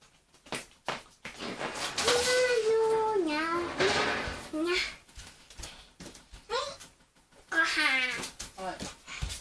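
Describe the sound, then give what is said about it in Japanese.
A cat meows several times, drawn-out, wavering calls that rise and fall in pitch, separated by short pauses and soft clicks. “猫ちゃん何してんの？”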